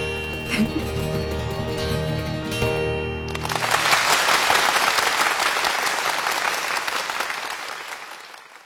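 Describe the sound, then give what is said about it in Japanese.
A short stretch of sustained music gives way to a burst of loud audience applause in a theater, a dense, steady clapping from a large crowd that carries on for several seconds before easing slightly. “見てらっしゃいますか、この拍手を、子供たちの笑顔を。”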